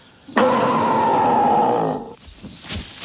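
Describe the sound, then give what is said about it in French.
A person imitates a big bear's growl: one loud, sustained, rough roar lasting under two seconds, then fading into quieter background noise. “Et fais un terrible grognement d'ours.”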